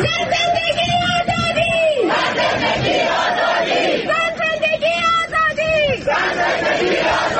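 A large crowd at a rally in Ottawa, Canada, in solidarity with the protests in Iran, attended by Canadian Prime Minister Justin Trudeau, chants in unison, repeating a rhythmic slogan in two loud swelling phrases with sustained shouted vowels over a constant roar of voices.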